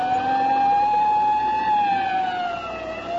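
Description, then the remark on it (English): An ambulance siren wails loud in a steady, sustained tone, its pitch bending slightly downward toward the end as it passes, over a low rumble of traffic. “Hey, you better pull over and let that ambulance get past before it runs us down.”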